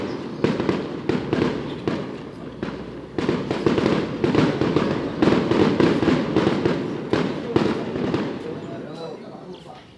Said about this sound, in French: Il y a des pétards. Il y a des pétards.